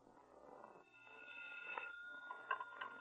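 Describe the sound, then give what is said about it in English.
A faint telephone ring heard over the line as someone places a call, a thin steady electronic tone that swells a couple of times over low background hiss, with no one speaking. “I just remembered I have to make a phone call.”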